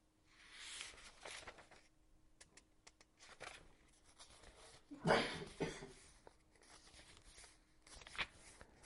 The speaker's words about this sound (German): Ich muss kurz blättern. Haben wir nämlich kein Zettel hineingelegt. Aber ich werde es gleich finden.